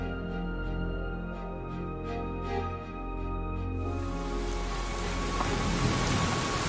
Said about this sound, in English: It started to rain, but we didn't mind getting soaked through.